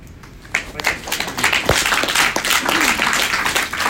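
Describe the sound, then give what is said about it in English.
A crowd breaks into applause, starting suddenly after a quiet moment and continuing as dense, steady clapping with a few scattered voices mixed in. “That'll be a long night if we're gonna have applause between every question, I think.”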